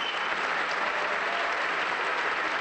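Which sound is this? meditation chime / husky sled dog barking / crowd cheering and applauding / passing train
crowd cheering and applauding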